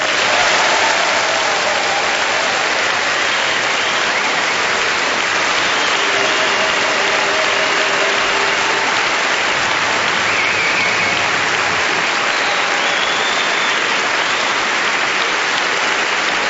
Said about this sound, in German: Wir grüßen jetzt einmal pauschal alle 664 Orte mit einem kräftigen Nürnberger Applaus.